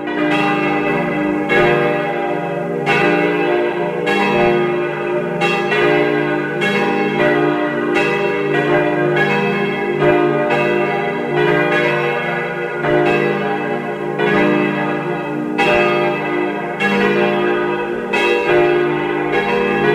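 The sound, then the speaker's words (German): Several church bells peal together in a steady, overlapping rhythm, loud and resonant, with rich ringing overtones sustained throughout and no voices present. They are the bells of the parish church of Saints Stephen and Anne in Karres, Tyrol, Austria, ringing at 12 noon. “Es ist 12 Uhr. Sie hören die Glocken der Pfarrkirche zu den Heiligen Stephanus und Anna in Karres in Tirol.”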